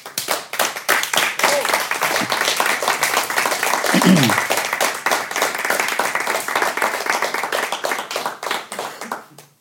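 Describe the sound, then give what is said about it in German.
Sustained audience applause for a drummer, a dense crackle of many hands clapping at steady loudness for nearly ten seconds, with a brief whoop partway through before it fades out. “Ich bitte um einen herzlichen Applaus für ….”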